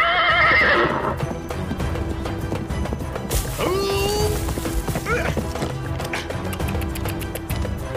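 A horse whinnies loudly with a bright, wavering call, then rapid hoofbeats clop along amid busy movement noise, with a few more short neighs breaking through.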